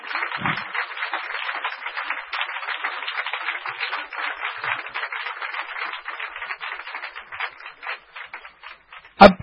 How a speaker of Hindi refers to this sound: यही शब्द से आप सभी को एक रिक्वेस्ट करता हूं कि स्टैंडिंग ओवेशन के स्वामी जी का ये कर देवे। सो जोरदार तालियां प्लीज, जोरदार तालियां।